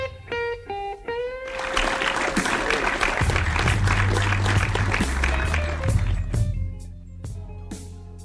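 A short musical sting with tonal harmonics opens, then a dense burst of audience applause and cheering swells loudly for several seconds before thinning out toward the end.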